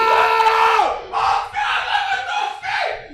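A voice screams in wild excitement, one long strained yell that drops in pitch, then three more loud shouted bursts in quick succession, close and intense like celebrating a goal.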